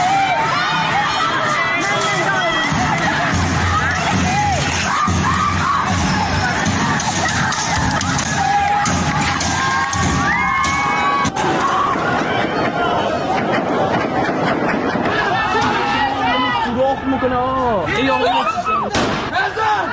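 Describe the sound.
A dense, noisy street protest crowd in Iran, protesting the death of Mahsa Jina Amini, fills the whole recording, with many overlapping voices, shouts and a continuous roar of agitated people, plus occasional sharp bangs rising above the commotion.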